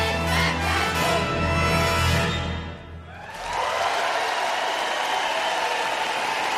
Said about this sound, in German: Großartig. Einen großen Applaus für den Kinderchor von der Singakademie Potsdam.